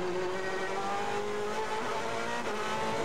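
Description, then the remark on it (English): Jimmy Bruni's race car engine screams loudly and continuously at high revs on a flying lap, its steady whining pitch dipping briefly near the end as it runs along the track; no one speaks. “And as you can clearly hear, Jimmy Bruni on another flyer.”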